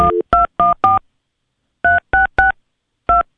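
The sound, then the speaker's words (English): A steakhouse restaurant's phone number is punched in: a quick burst of four loud DTMF keypad tones, a pause, then three more, a short gap and a final tone. No one speaks. “Well, you can't pick that up from the dial tone.”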